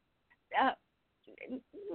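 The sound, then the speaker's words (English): A bird calls outside by a front porch on a gorgeous day: one loud, rich, wavering cry, a short pause, then a run of shorter, lower calls in quick succession. “Is that a bird? Do I hear a bird?”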